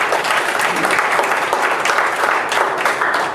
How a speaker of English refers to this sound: Give God a hand of applause in the house.